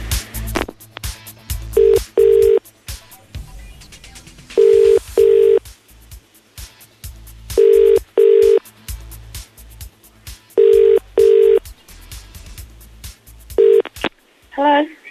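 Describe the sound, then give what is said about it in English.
A phone call ringing out: a clear, steady ringback tone in repeated double bursts, about five pairs spaced evenly, with some faint background noise and a brief chirp at the end. “Should we try and give her a call?”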